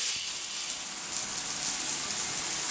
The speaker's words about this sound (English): I take a shower.